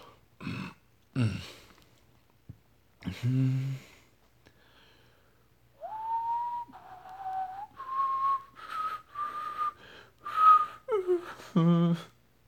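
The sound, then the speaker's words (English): A person whistles a short, loud tune of steady, rising notes, with breathy puffs and a few sharp exhalations before and after. “No, I'm just whistling because I'm terrible at letting things, saying things are happening in movies.”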